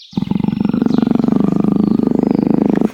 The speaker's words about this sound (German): Ein leises Wimmern und Knurren, ein Schnauben und Hecheln.